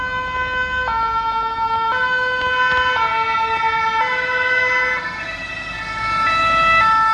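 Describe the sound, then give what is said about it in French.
Emergency sirens from fire and police vehicles arriving at the Château de Benat wail together, their stepped two-tone pitches shifting and overlapping, loud over a steady rumble of traffic, with no voices. “Peu de temps après, la police et les pompiers sont arrivés.”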